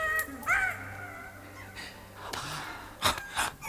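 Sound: monkey chattering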